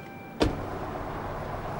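car engine starting up

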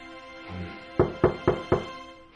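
knock on a door

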